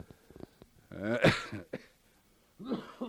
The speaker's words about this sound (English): excuse me. That old cough just pops up there.